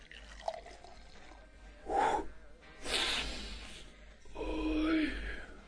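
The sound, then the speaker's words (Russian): A drink is poured into a glass in a hotel room in a couple of short bursts, the liquid's gurgle rising in pitch as the glass fills, clear with no talking. “наливай.”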